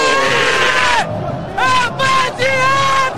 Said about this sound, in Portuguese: A galera grita: eu te amo, Maicon.